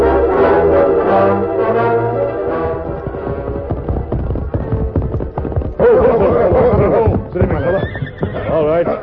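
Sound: horse neighing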